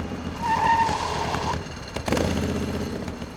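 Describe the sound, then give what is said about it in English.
A motorbike engine rumbles as a brief high brake squeal cuts in, then a soft clunk as the bike pulls up by the side of the road and settles into a low idle. “Stuart stopped the bike by the side of the road.”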